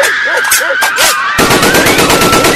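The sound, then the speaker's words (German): Loud machine-gun covering fire in a fast, steady stream of sharp cracks, starting as scattered bursts and then hammering continuously, with a thin high whine running underneath and brief shouting early on. “Ich gebe Ihnen Feuerschutz!”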